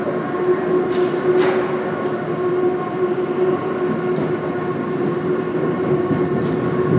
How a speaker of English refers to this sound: Oh, there's a, you can hear a train as well.